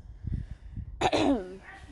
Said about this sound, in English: Bless you.